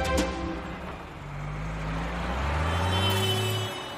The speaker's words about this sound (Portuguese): Milhares e milhares de veículos transitam pelas rodovias todos os dias, principalmente os caminhões.